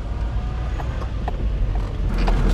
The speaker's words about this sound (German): Wir fahren zusammen mit ihrem Auto dorthin.